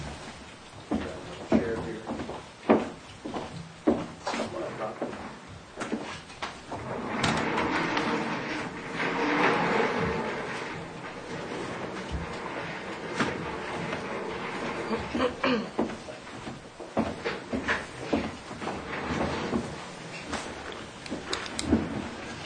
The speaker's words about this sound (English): Let me pull another chair in.